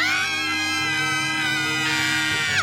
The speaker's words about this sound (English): All three girls screamed.